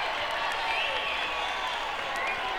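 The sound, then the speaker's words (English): A crowd applauds for Long John of radio station WIBG in a steady, dense wash of clapping that holds at an even, fairly loud level throughout, with a few faint cheers and voices mixed in. “How about a nice big round of applause from WIBG, Long John.”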